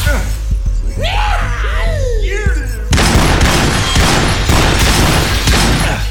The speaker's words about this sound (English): Shards of splintered basin and slicing lengths of broken glass had cascaded all around Ryan.